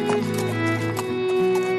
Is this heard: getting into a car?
no